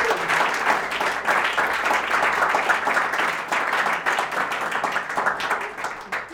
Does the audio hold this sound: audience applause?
yes